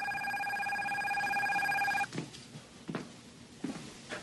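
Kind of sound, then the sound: household object, telephone ringing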